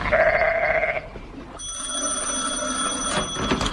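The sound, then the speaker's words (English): A single wavering bleat from a sheep wearing a tin helmet, fairly loud, fills the first second, then gives way to a steady, high-pitched ringing tone with no talking. “Now, look here, you sheep. Don't you go shaking those tin helmets off.”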